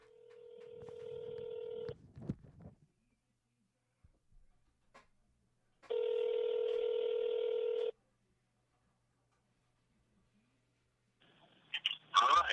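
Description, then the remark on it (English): A voice call placed on speakerphone to the person who is to become the new co-host: two long, steady buzzing ring tones, each about two seconds, separated by silence and a few soft clicks, followed by a brief noisy rustle at the end. “So we are going to call, and the person who answers this phone is going to be my new co-host.”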